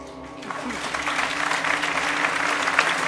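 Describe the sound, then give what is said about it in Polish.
A theatre audience bursts into applause at the end of a play, dense steady clapping that swells after a quiet start and stays loud and continuous, with no voices standing out above it. “I jeśli nie, wieczna sława niech nas choć nagrodzą brawa!”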